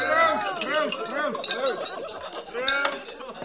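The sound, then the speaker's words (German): Several bright glass clinks ring out in quick succession in a toast, over a busy background of overlapping voices chattering and calling out. “Ja, Prost, mein Anna!”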